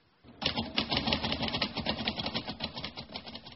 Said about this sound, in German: Fräulein Schulz tippt weiter.